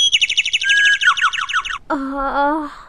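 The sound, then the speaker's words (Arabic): Sparrows chirp in a quick, busy run of high twittering notes, then give way to a lower, wavering warble that carries on to the end. “أيتها العصافير، لقد أيقظتني، سأمسك بك وأكافئك.”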